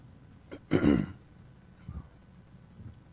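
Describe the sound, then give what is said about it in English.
A brief catch is followed by one harsh, raspy cough lasting about half a second after choking on water, then a couple of faint, low throat sounds as the person recovers. No one speaks. “I still haven't mastered breathing water.”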